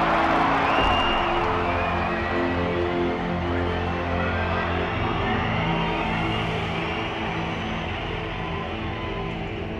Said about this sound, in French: Aux élus de la mission, je vous demande un tonnerre d'applaudissements.